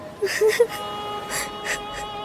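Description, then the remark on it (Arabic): Soft sobbing by two people: a few short whimpering cries followed by breathy, catching gasps spread unevenly over a couple of seconds, with no clear words spoken. “كفى بكاء، وإلا سأبكي معكما.”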